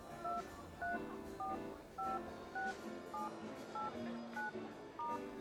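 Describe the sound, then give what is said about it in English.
A rapid series of about ten short two-tone phone keypad beeps, evenly paced as a phone number is typed into a phone, over a soft background murmur with no clear talking. “Well, your name and maybe your phone number would be a good start. Here, you can put it in my phone.”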